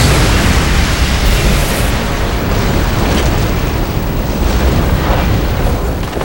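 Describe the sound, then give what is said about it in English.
A black altar, struck by lightning, explodes and flings chunks of black rock in all directions: a loud, sustained explosive roar with heavy low rumbling and dense crackling debris noise, holding steady for about six seconds without any voices. “Then it exploded, flinging chunks of black rock in all directions.”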